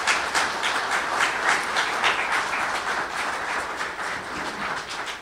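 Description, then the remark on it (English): Steady audience applause for a Bronze Star veteran fills the whole stretch, a dense crackle of many hands clapping at an even loudness without a break, and no voices rise above it. “Let's have a nice round of applause for that there, sir.”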